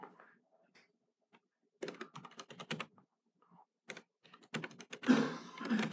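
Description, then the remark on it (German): Rapid keystrokes on a computer keyboard come in two quick bursts separated by a short pause, the second run growing louder and busier toward the end. “Man soll nicht zu schnell tippen.”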